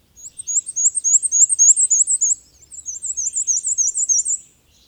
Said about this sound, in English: The black and white warbler has a distinctive song, though it's so high-pitched that it's often above the hearing range of some people. It's a simple, unhurried series of about 6 to 8 couplets, often transcribed as weesy, weesy, weesy, weesy.